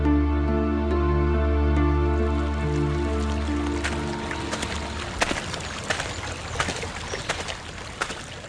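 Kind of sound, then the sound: nature, river water trickling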